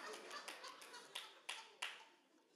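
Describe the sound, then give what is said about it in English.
Hand clapping by a pastor in church: a run of quick, soft claps, then three sharper, louder claps spaced about a third of a second apart, each with a short ringing tail. No voices. “Pastor over there clapping one more time for that one.”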